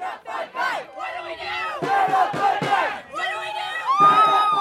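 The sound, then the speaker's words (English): A crowd of marchers from the Transgender Resource Center shouts and chants together in the streets while marching to a candlelight vigil, many overlapping voices rising in loud, rhythmic bursts with a few high-pitched whoops standing out, the noise sustained throughout. “The crowd from the Transgender Resource Center hit the streets to march to the candlelight vigil.”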